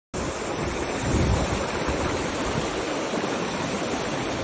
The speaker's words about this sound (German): Na gut, jedenfalls habe ich euch mal so einen kleinen Soundbite mitgebracht, wie das klingt, wenn das Wasser im Boden kocht.